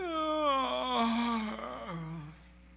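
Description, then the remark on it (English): A voice imitates a child's long, drawn-out yawn during a bedtime prayer, a single fairly loud groaning breath that slides downward in pitch over about two seconds, with no other sounds around it. “You don't yawn.”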